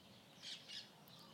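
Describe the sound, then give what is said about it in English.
Two quick, high bird chirps sound one after the other outdoors in the evening against a quiet background hush, with a fainter call trailing after; no one speaks. “It's so lovely to be outside in the evening at this time of night and hear all these birds.”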